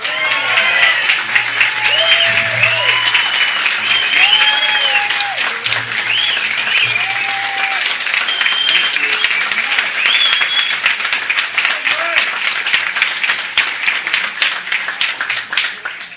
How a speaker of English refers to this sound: Thank you. But you know, it gets embarrassing when the applause you get before you speak are longer than the applause you get after you speak.